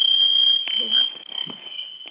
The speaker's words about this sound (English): Just forgive us, we're in the midst of changing phones. Our battery's blinking. I don't know, we're on these phones, and so let me just switch over so I don't hear this blinking.